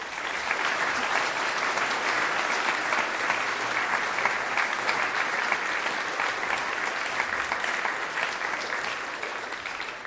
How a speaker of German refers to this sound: Und dieser Applaus, den wir gerade gehört haben, gilt natürlich allen anderen, die auch mitgeholfen haben.